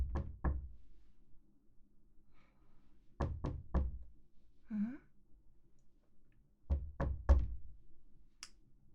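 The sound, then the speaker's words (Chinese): Someone knocks on a door in three clear bursts, two raps, then three, then four, with short pauses between, and no one opens the door; a soft sigh-like vocal sound is heard between the second and third sets. “不开门呢，怎么？”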